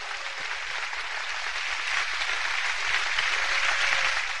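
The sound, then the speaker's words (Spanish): An audience claps together in sustained, dense applause given to the 'King of Glory' (God) during a sermon, a steady wash of many hands that swells slightly toward the end, with no speech over it. “Dale un aplauso al Rey de Gloria.”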